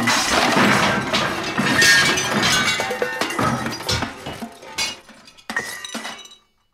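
A loud, sustained crash of breaking crockery and glass as plates, dishes, candles and spoons are pulled off a table by the tablecloth and fall to the floor, with shards clattering and tinkling in scattered bursts before settling into a few final clinks and silence.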